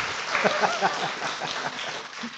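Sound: audience hand clapping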